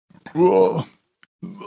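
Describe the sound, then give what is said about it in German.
A single loud, drawn-out burp from a carbonated drink, with a low, rumbling voiced tone lasting about half a second, then a short pause and the start of another throaty vocal sound. “Alter, mit dieser Kohlensäure ist wirklich unangenehm auch.”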